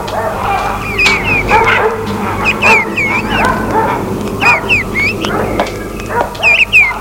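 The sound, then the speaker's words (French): A dog runs up in front of a manor and barks repeatedly, a quick irregular series of sharp barks mixed with higher yips, continuing for several seconds over a low steady background hum. “Arrivant devant le manoir, un chien accourt à lui et aboie.”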